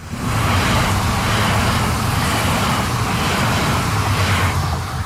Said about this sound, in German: So klingt es, wenn die S-Bahn-Linie 5 von Hamburg kommend auf dem Weg nach Stade durch Neukloster fährt.